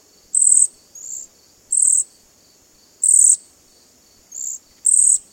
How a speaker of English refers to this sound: Cedar waxwings sound like tiny mice snoring.